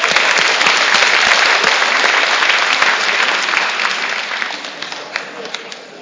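A room full of people applauds, a dense, steady clatter of many hands clapping that holds strong for several seconds, then gradually thins and fades toward the end.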